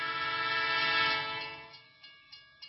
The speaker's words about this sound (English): I was crossing the Gran Via, a wide road in Barcelona. I was thinking of my work, and I didn't see a tram coming towards me. The driver of the tram wasn't able to stop in time.